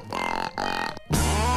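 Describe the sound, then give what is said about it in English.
Wisconsin YouTube star Charlie Behrens of the web series Manitowoc Minute imitates a rutting buck's call for deer season: two deep, rough, burp-like grunts followed by a louder, sustained guttural bellow, all low and raspy with no words. “It means them deer running around mating all willy-nilly, and I have been practicing sounding like a sexy buck. Whoop, that's a buck that swallowed a duck.”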